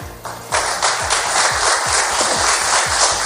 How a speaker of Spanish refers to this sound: Aplausos ayer en Turquía tras firmar Rusia y Ucrania, aunque por separado, eso sí, un acuerdo para desbloquear la salida de 22.000 millones de toneladas de trigo, de maíz y de otros cereales.